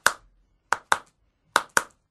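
A wooden Easter clapper knocks five times with sharp, dry clacks: a single knock, then two quick pairs separated by short pauses. No voices are heard.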